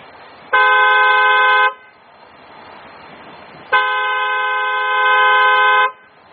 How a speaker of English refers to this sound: We'll use a truck horn.